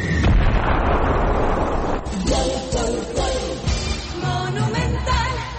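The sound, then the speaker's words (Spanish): The Fútbol a lo Grande broadcast's goal celebration alarm sound effect, played for General Díaz's free-kick goal against Capiatá: a loud, rumbling explosive blast opens, then gives way to wavering, siren-like alarm tones that repeat over a dense, noisy bed, with no voices. “Golazo, bombazo, y suenan las alarmas de Fútbol a lo Grande para sin dudas observar allí, y tiene que estar en la galería de goles porque es un tremendo golazo sobre la barrera.”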